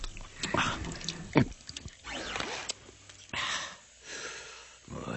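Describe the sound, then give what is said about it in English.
A very dry martini drizzles slowly from the spigot of a mechanical liquor bar into a man's mouth as he lies on a couch in a lab: a thin stream splutters in uneven, hissing bursts, with a brief sharp gurgle partway through and a soft murmuring voice mixed in. “A very dry martini drizzled slowly from the spigot into his receptive mouth.”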